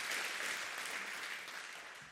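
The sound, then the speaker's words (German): Steady audience applause fills the whole moment, a dense wash of many hands clapping at once, loud, tapering slightly toward the end with no voices over it. “Okay, also dann noch einen großen Applaus für die Winne und altes Glas.”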